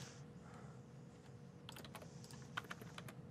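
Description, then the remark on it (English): Rapid typing on a computer keyboard as someone types code, a flurry of light clicking keystrokes that picks up after a quiet start, steady with a soft hum underneath. “Somebody asked while you're typing away”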